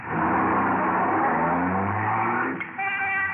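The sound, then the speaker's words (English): A suspect's car engine roars loudly and revs up in the street, its pitch climbing steadily as the vehicle accelerates away, then shifting to a higher whine near the end. No one speaks. “He's getting into a car.”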